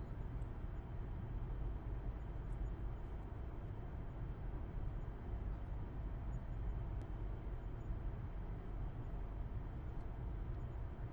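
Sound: car driving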